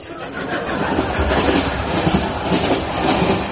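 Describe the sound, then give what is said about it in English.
A train rushes steadily along the tracks, a continuous broad rumble with faint rhythmic clatter of wheels and a hiss over the top, holding a fairly constant loudness throughout. “A silver bullet surged on, snaking its snake-like form like a snake snaking along a snake-like line.”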